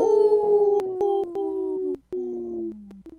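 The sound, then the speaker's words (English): A person imitates a wolf howl with a long, sustained wavering tone that slowly falls in pitch, briefly breaks off, then resumes and trails lower. The voice is fairly loud, with no talking. “Good howl.”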